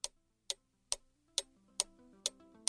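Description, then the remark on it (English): A wall clock ticks steadily, seven crisp, evenly spaced clicks about twice a second, with faint sustained tones rising softly underneath in the second half. “Well, I see by the clock on the wall, there's a dead fly.”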